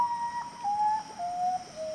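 A common potoo, a nocturnal bird of tropical Central and South America, calls: four drawn-out whistled notes, each a little lower than the last, mournful and clear over a faint steady background hiss.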